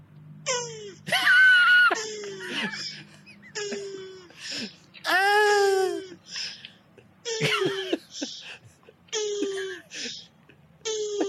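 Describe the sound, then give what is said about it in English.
A male turtle vocalizes while mating, giving a series of squeaky, wheezing calls in bursts, each rising and falling like air squeezed from a balloon, with steady low rumbling underneath. “It's like when you let a bit of air out of a balloon. Isn't it the cutest sound?”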